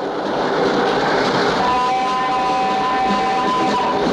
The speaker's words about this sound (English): passengers in Yuri's compartment try to hang on, pitching violently back and forth with the movement of the train